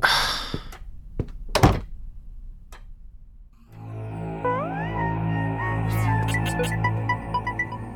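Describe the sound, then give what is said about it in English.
A few light clicks and taps lead to a solid thud of a door shutting, followed by quiet, then music swells in and continues. “Close the door on your way out.”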